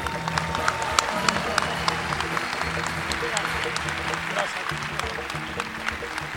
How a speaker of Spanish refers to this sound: Más fuerte el aplauso, por favor.